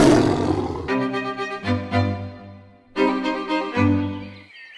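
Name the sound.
tiger roaring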